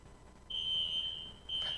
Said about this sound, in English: Okay, one of our kids set off the fire alarm. Now we're going to see how well you can pay attention while I try and teach with this thing going. hopefully somebody knows how to reset it quickly.